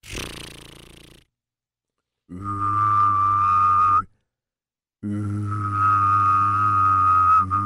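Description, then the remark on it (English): Someone hums a low, buzzy note while whistling a steady high tone at the same time, in two loud sustained bursts, the second longer, after a short burst of rough noise. “That is a hum and a whistle.”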